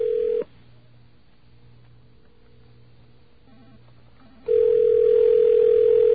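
A telephone line ringing with no answer: a loud, steady mid-pitched tone cuts off, leaving about four seconds of quiet line hum, then the same tone returns and holds.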